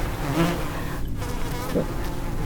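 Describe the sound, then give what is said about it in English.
A steady drone of buzzing insects fills the whole stretch, dense and continuous with slight wavering in pitch, like several flies or bees hovering. “Buzzing in my head, all around me, creeping in, filling my skull, crawling into my teeth, sticky little insect feet all over my face, feelers probing at my lips.”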